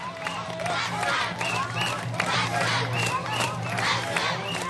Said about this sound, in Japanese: その豪華絢爛の時代絵巻に街頭に並んだおよそ50万人もの観客が大きな拍手を送ります。